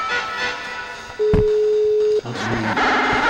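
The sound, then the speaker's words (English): A steady electronic ringing tone from an outgoing phone call sounds once for about a second, clear, over a murmur of background noise and faint voices. “Let me talk with him on the phone. He's not always picking up.”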